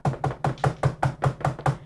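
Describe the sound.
A voice imitates a neighbor rapidly knocking on an apartment door at about 10:30 at night: about nine quick, evenly spaced knocks in a steady rhythm, fairly loud, with no other sounds around them.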